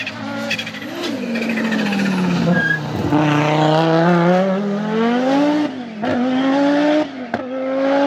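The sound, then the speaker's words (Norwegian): A rally car driven by a rally legend races flat out on a loose, real rally stage in the Alps, its engine roaring loud with rising and falling revs, brief gear-change dips, and tires skidding and scrabbling over the surface. “Jeg satt på med rallylegende Stig Blomqvist I nettopp den bilen. Ja. På en ekte rallyetappe.”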